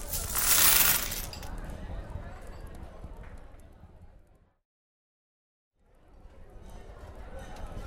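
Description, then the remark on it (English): A bright metallic rush of coins skittering across a table, loud at first, then a softer rattling clatter that fades into a brief silence before low background noise returns. “All right, well, let's toss the coins across the table to cement our bets.”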